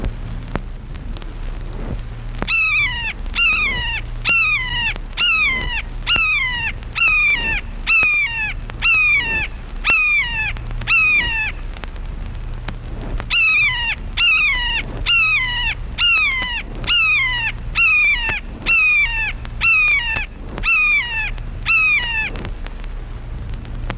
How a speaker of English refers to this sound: Red-shouldered hawk.